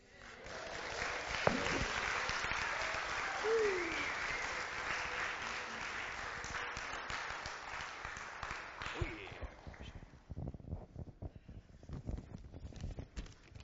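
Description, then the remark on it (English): Sustained crowd applause for students, a dense crackle of many hands clapping, steady for several seconds with a brief cheer, then thinning out to scattered claps before fading. “Give our students another round of applause.”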